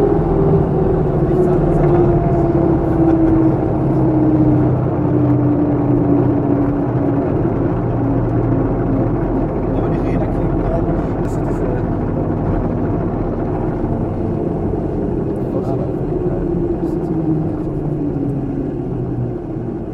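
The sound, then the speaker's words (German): A steady, loud engine drone of a relatively small airplane in flight at 58 knots, with a slowly gliding pitch tone over a deep continuous rumble. “Soweit der Flug und hat mir riesen Spaß gemacht und was ganz witzig war, ist ein relativ kleines Flugzeug, also es ist wirklich sehr kleines Flugzeug”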